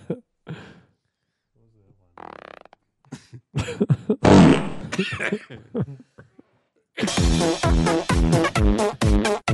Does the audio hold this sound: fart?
yes